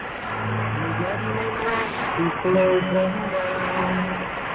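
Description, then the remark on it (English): An airplane engine drones steadily throughout, a buzzing, harmonic hum whose pitch wavers and steps slightly, swelling a little louder toward the middle before settling again. “The plane sound, we all love.”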